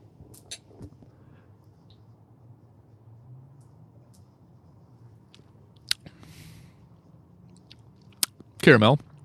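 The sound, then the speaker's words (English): Quiet sips of Irish whiskey with soft mouth sounds and a few sharp clicks, ending in a brief louder rush of breath or swallowing over a low hum. “But I'm gonna sip on it.”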